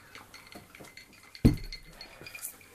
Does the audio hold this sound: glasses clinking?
yes